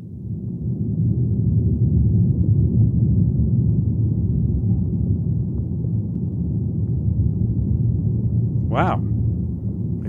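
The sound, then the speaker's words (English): Leaves rattling on a tree in thunderstorm wind, their vibrations recorded through the tree's roots with a hydrophone, make a deep, steady, continuous rumble that fills the whole recording, loud, with a single brief spoken exclamation near the end. “So that's the sound of, you know, the leaves, I think, rattling on the tree in a thunderstorm.”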